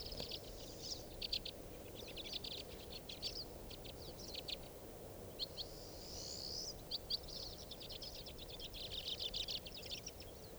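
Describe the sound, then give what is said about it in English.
White-winged crossbill calls: rapid, dry, high-pitched chattering chirps repeating in bursts throughout, fairly faint over a steady low rumble of background noise, with no talking. “is a white wing.”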